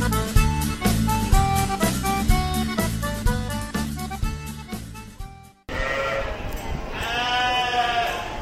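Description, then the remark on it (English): After a stretch of music cuts off, a noisy livestock pen at a sheep gathering fills in, with green metal gates penning different types of sheep, and a sheep gives a loud, wavering bleat over the crowd of animals. “I'm standing here in the livestock pen of the Black Sheep Gathering. I am surrounded by a sea of green metal gates, each of which contains different types of sheep.”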